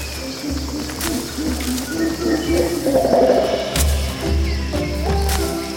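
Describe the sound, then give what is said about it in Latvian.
A dense jungle soundscape: tropical birds call and chirp overhead over a steady insect hum, with monkey cries from above and a distant elephant rumble blending into the continuous, fairly loud wildlife backdrop. “Tālumā viņi dzird ziloņus un virs galvām pērtiķus un tropiskos putnus.”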